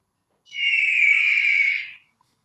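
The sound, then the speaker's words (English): One drawn-out, shrill eagle cry sound effect, played to mark the start of a role-played therapy session, lasting about a second and a half, holding a steady high pitch before cutting off, with silence around it and no voices. “So what we'll do is we will conduct the session after the sound of the eagle. When the eagle cries, we are in character.”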